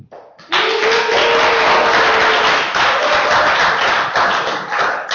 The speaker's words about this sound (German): Wie sind Buhrufe zu werten?